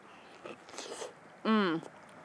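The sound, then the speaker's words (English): Wet biting and chewing into a peach, a few quick smacking bursts, followed by a short, bright hum of a voice, as if savoring it. “I'm totally chewing in your ear right now, and I'm sorry. But it was so good. I am so happy right now eating this peach.”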